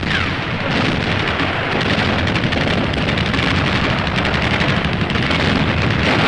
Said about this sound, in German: Gegen uns stehen neue Reserven der Sowjets, die hier vor Moskau mit schweren und schwersten Waffen bestens ausgerüstet sind. Ein mörderisches Feuer empfängt uns. Artillerie, Pack, Plack, Granatwerfer und MG von drei Seiten.